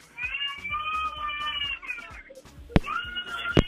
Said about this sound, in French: Ouais, mais j'entends l'enfant qui pleure. Hein. Est-ce que, c'est avec qui, là? On a un enfant qui pleure, ça c'est quoi?